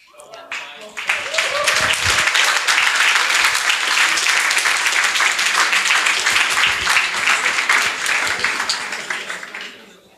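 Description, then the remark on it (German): An audience applauds for about ten seconds after a talk presenting PiCash, a cash register project, a dense wash of many hands clapping that swells quickly, holds loud and even, then tapers off at the end. “Super, ein Applaus für PiCash.”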